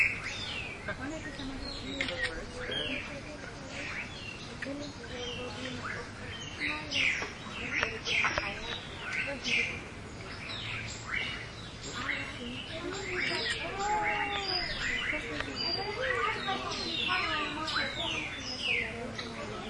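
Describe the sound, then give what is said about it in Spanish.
Many birds chirp and sing at once in a dense, continuous chorus of overlapping high tweets and trills, heard from a boat moving along a river, with faint background noise underneath and no clear voices. “Pero se escuchan muchos sonidos de pájaros.”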